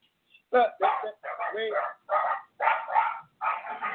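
Big dogs belonging to a radio call-in caller bark repeatedly during the call, about six loud, harsh barks in a quick, uneven series, each lasting under half a second, with no talking over them.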